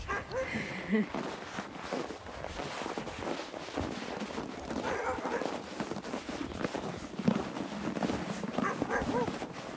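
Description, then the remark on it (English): Dogs bark and whimper in a steady, overlapping clamor that continues throughout, with some indistinct human voices mixed in. “Just one of them dogs right there, but I raised them.”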